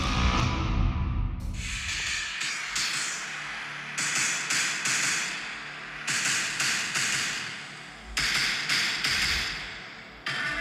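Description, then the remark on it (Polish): The theme of James Cameron's early-1990s film Terminator 2 plays on its own as a jingle. A low rumbling drone opens, then loud, clanging metallic percussion hits in repeating rhythmic groups, with no voices. “Słyszycie ten dżingiel?”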